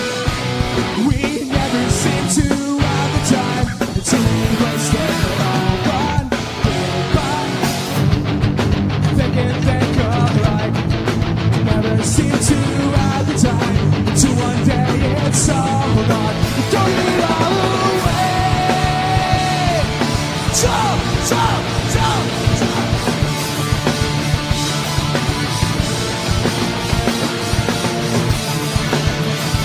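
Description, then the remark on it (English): A loud, dense rock song is performed live at a show, with hard-driving guitar and pounding drums under raw, shouted vocals that stay intense and forceful for the whole stretch. “This guy's been shouting the whole show, so let him up here.”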